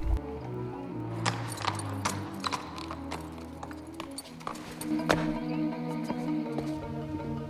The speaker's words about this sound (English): As the sun is going down, Sophie rides into the courtyard of the Imperial Hunting Lodge. A courtier takes her horse.